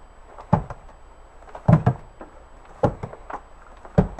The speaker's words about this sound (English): footsteps on the stairs of his Frankfort, Kentucky home.